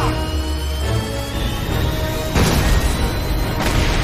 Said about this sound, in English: She uses her whip to swing to safety as another explosion causes the huge claw to fall into the machine below, leading to another explosion.